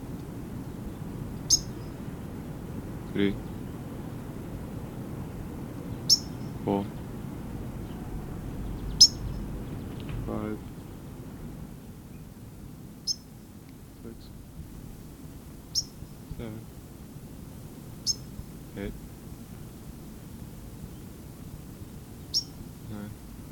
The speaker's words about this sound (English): White crown's directly above me, alarm calling, chipping.